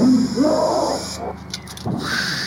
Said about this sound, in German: Ich glaube, die haben Affengeräusche genommen. Und verlangsamt.